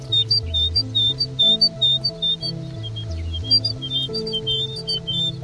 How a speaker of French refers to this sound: Petite mésange là, vous disiez? La petite mésange charbonnière.